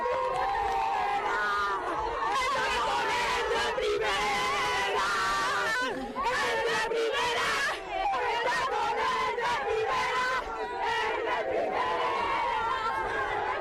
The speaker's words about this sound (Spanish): Así gritan las jugadoras